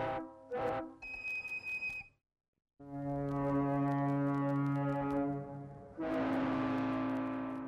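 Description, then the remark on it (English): Loud, sustained whistle blasts from Baker Whiteley tugboats in Baltimore, layered into a 1983 musical composition, several long harmonic tones with a brief silence between them, the final blast swelling brighter and harsher. “with credits to Baker Whiteley's Manuel Alvarez for providing access to the tugboats.”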